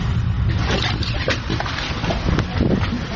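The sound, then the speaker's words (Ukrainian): A motor boat speeds across the water toward a lighthouse where a border guard special unit trains. Its engine gives a steady, loud, low rumble mixed with rushing wind and splashing spray, continuous throughout, with no voices. “На маяк, де тренується спецпідрозділ прикордонників, ми вирушаємо на моторному човні.”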